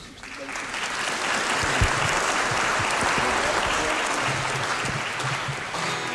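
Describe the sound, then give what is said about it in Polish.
Sustained audience applause for a musician, a dense steady patter of many hands clapping for about six seconds at even loudness, with a few louder individual claps standing out and tapering slightly at the end. “No tak, no to jeszcze raz brawa.”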